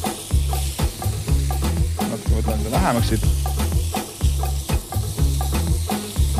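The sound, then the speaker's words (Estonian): Rice sizzles steadily in a hot pan while a utensil scrapes and stirs it in quick, repeated strokes; a voice briefly speaks over the frying. “Mulle nagu väga, väga meeldib praatud riis just munaga, et see muna annab kuidagi tummisust juurde sellele ja riis nagu muutuks nagu täiesti iseseisvaks toiduks peale seda.”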